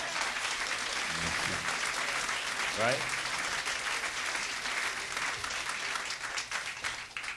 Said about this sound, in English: How about a big round of applause for David Schnitter?